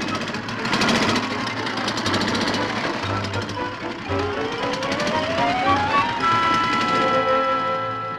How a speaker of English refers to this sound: Him and his stupid scooter. Where's he going? No place. He's just riding up and down the block to make me sore. Here he comes again.